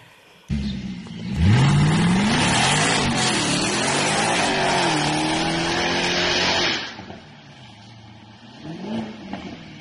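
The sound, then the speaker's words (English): A Jaguar XFR sports sedan's V8 engine roars loudly, rising in pitch as it revs hard and pulls away for several seconds, then drops off, leaving a quieter rumble with a brief second surge. “It roars. Yes. And it moves. I would say, look, get the XFR.”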